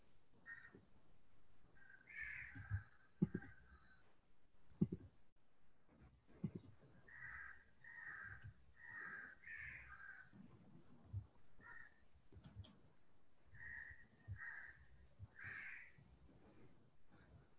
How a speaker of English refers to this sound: Are we hearing birds waking up there? Oh, yes. That's great.